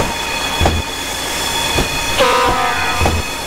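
An old class 810 diesel railcar on an excursion, with an automatic transmission and a speed of 80 km/h, runs along the track with a steady engine drone, rhythmic wheel clatter over rail joints, and a brief high metallic squeal midway, with no talking.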